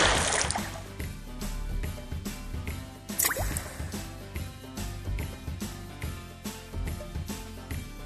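A single watery splash as a small, skinny horse ridden by a king plunges into a river, bursting out over steady background music with a regular beat, followed by faint dripping, liquid sounds.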